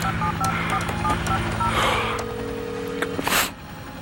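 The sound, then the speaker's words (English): A rapid run of short, evenly spaced touch-tone beeps as Patrick Bateman, sitting on the floor in front of his desk, keys in a phone number to call his lawyer, followed by a steady dial tone and a brief burst of breathy noise at the end. “Crouching in front of his desk, he reaches for the telephone and sits on the floor.”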